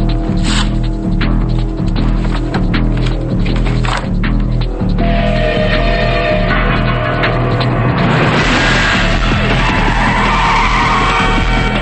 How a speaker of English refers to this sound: Screeching tires, Hollis and a number of police cars race down a street.